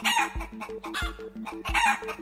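Chickens cluck and crow in loud, repeated bursts over a steady rhythmic beat with deep thumps roughly every two-thirds of a second, with no one speaking.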